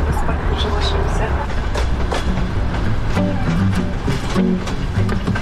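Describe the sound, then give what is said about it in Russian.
A night train carriage on the South-Western Railway rumbles steadily along the rails at three in the morning, with a constant low roar and repeated metallic clacks and rattles. Muffled voices murmur faintly under the noise. “Південно-західна залізниця, третя ночі, година рання.”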